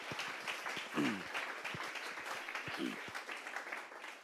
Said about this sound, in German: Aber danke vielmals für den Dienst, den du tust. Applaus! Danke vielmals.